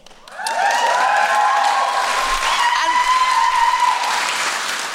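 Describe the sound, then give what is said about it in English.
A crew bursts into applause after a brief pause, the clapping rising quickly and holding steady and fairly loud, with a few high cheers or whoops mixed into the sustained noise. “And the crew did that. The crew applauded.”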